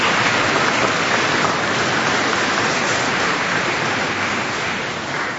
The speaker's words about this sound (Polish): Bardzo serdecznie dziękujemy. Myślę, że ogromnymi brawami wyrazimy wdzięczność księdzu biskupowi.